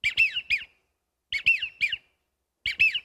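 Wigeon duck calls: three bursts of high, breathy whistles, each a quick run of three or four wheezy notes, with short silent pauses between and no talking.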